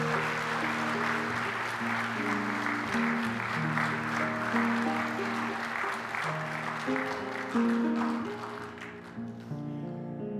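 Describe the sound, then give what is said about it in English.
An audience claps steadily for about nine seconds, a dense wash of applause over sustained organ-like musical tones, then the clapping thins out and fades near the end. “Let's give them a nice round of applause.”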